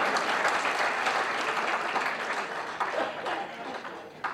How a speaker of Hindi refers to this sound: ताली वाली बाजती रहनी चाहिए थोड़ी सी।